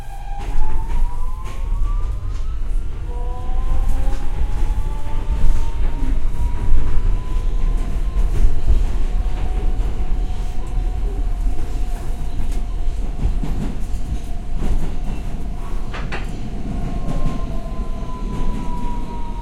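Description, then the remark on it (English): A Brooklyn-bound N Express subway train rumbles steadily along the tracks toward Times Square, 42nd Street, loud, with a droning electric motor whine that rises and falls in pitch over the continuous roar of the wheels. “This is a Brooklyn-bound N Express train.”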